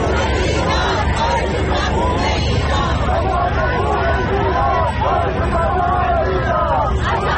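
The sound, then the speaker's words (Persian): A large protest crowd of thousands of Iranians from various US states and Canada, joined by non-Iranians, gathered in America, chants loudly in unison, repeating the name Mahsa Amini in support of nationwide protests in Iran, over a dense roar of shouting that continues without pause. “جایی که جمعیت بزرگی از هزاران ایرانی از ایالت‌های مختلف آمریکا و همینطور از کانادا به اینجا آمدن، دور هم جمع شدن، حتی غیر ایرانی‌ها به اونها پیوستند و همه با هم نام مهسا امینی رو در حمایت از اعتراضات سراسری ایران فریاد می‌زنند و تکرار می‌کنند.”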